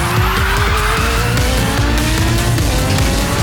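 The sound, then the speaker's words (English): A motorbike engine revs hard and speeds off into the night through driving rain and wind, its loud whine climbing steadily in pitch over a few seconds with a gritty, continuous roar and no voices. “Zarius hurtled on, throttled to the max.”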